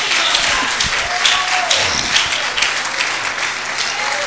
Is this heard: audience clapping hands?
yes